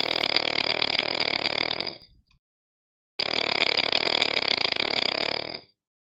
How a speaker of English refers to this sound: I think this might be for real. It wouldn't be the first time he was snoring on Mumble.